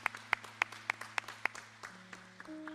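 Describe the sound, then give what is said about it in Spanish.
A church audience claps to welcome a first-time visitor, together in a steady, even rhythm of sharp claps that soon trail off into scattered taps, with a low steady hum and faint tones underneath. “que nos visita por primera vez, si puede levantar su mano ahí donde está para darle un fuerte aplauso.”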